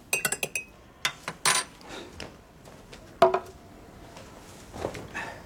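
Cups and a spoon clink as tea is made, with a quick flurry of sharp chinks at the start, scattered knocks and a bright clatter midway, with no talking.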